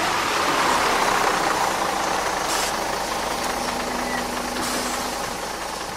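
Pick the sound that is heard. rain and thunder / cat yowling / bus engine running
bus engine running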